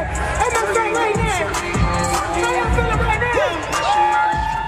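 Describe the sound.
A packed crowd of fans cheers and whoops continuously at a rapper's concert in the lofty atrium of the Museum of Fine Arts in Boston, with excited voices rising and falling in a loud, dense wash of sound.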